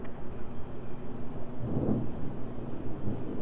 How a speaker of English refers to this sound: Thunder. Listen to the thunder. You hear the thunder? Thunder. Thunder. Outside.